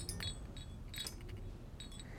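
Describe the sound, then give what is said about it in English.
Light metallic clinks ring out in a few scattered bursts as a brass magnifying glass and letter opener set, dangling from a stand on a desk, swing in a stiff breeze from an open window, quiet over a low steady hum. “On the desk, a brass magnifying glass and letter opener set, dangling from a stand, begin to swing.”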